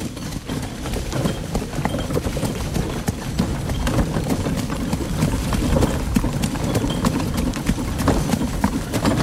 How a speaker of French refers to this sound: De passer il dans galope là le cheval, hein ? Non, non. Non, il est au trot ? Là, on est au trot. Ah ouais. Tout ça, c'est des anciens chevaux de course réformés. C'est tous des trotteurs.